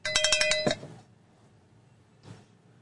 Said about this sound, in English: Fuck it, I'm giving myself a cowbell for that.